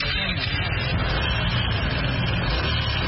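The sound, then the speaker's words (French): The engine of an X-Max motor scooter, ridden by a young parcel delivery rider in Dakar, Senegal, drones steadily amid busy street traffic, a continuous low rumble with the wash of passing vehicles all around for the full three seconds. “Assis sur sa moto X-Max, casque bien vissé sur la tête”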